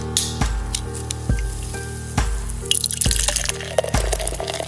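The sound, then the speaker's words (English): Huntsman Red Ale, an imperial double red ale by Barley Mow Brewing Company, being poured from a bottle, with steady rhythmic glugs about once a second, then a rising fizzy splash as the glass fills. It is clear, with no voices. “Let the river run red, Captain. Tonight we are drinking the Huntsman Red Ale by Barley Mow Brewing Company.”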